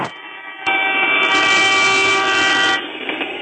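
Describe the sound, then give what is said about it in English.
The 10:15 train rushes past on the tracks, loud, with a steady rumbling roar, horn-like tonal blasts and a burst of high metallic hiss in the middle before it eases off. “Right on time, the 10:15. Oh, no, not the train track. No!”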